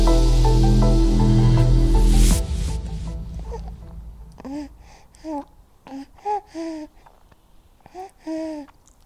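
After a loud musical passage fades out, a newborn baby boy makes a series of short, soft coos and babbling vocalizations, five or six brief sounds spaced out, fairly quiet.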